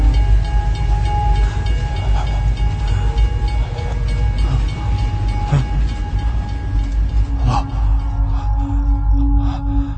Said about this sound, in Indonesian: Dan kereta api itu pun lewat di depanku.